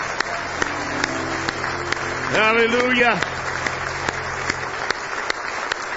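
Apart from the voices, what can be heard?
audience hand clapping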